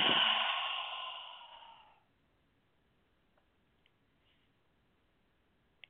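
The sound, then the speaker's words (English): A long, breathy exhale through the mouth in a guided breathing exercise, released after breathing in through the nose and holding to a count of eight; fairly loud at first, then tapering off over about two seconds into near silence broken by a few faint clicks. “Breathe within your nose, breathing in through your nose, holding it to the point of vibration, holding it to the count of eight, and breathing into the heart and releasing through the mouth.”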